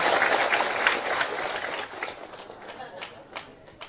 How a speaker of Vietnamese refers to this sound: Xin quý vị dành được tràng pháo tay.